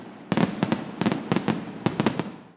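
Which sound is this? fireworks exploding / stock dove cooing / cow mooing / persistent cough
fireworks exploding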